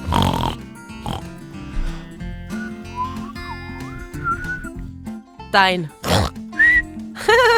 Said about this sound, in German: Ja, mein Schwein pfeift.